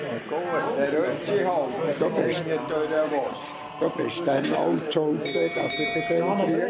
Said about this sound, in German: Der Barmann bringt immer die Glocke zum Läuten, wenn jemand ein Trinkgeld liegen lassen.